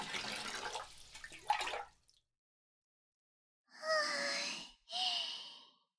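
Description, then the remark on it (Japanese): Bubble-bath water sloshes and splashes for a couple of seconds as someone settles in behind another person in the bath, then after a pause come two long, breathy sighs. “みたいな泡風呂になりましたね。では私も後ろにお邪魔しますね。”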